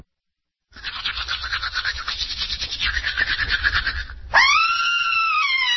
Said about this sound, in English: You just heard someone seeing pink in her sink after brushing. She's screaming because she knows bleeding gums can mean gingivitis, and that can lead to tooth loss, gum surgery, and worse.